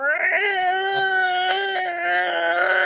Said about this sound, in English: I'm just gonna sit here and watch it bleed on the ground. It's bleeding, still squealing, just howling.